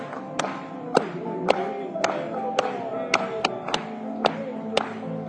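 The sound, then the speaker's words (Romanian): An audience claps in praise of God together in a steady rhythm, about two sharp claps per second, over a continuous musical backdrop. “Hai să o aplaudăm Lui!”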